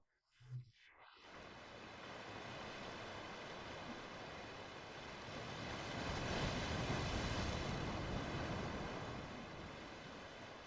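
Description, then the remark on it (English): A steady, hissing wash of ocean surf, swelling into a louder surge around the middle before easing slightly, after a brief low thump at the start. No voices. “The sound of the ocean releases your muscles and makes every cell in your body float on a great ocean.”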